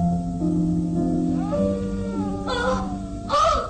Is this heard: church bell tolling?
no